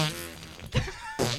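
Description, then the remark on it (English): A person blows a buzzing, raspberry-like fart imitation with the lips for about a second and a half, fairly loud, with a brief sputtering break midway. “Is that like a certain fart sound?”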